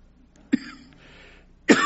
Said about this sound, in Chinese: 我讲到激动的时候就咳嗽， 当我讲到激动的时候呢，我会咳的。 不是 COVID， 你们放心， 不过我不是冠状病毒，大家可以放心。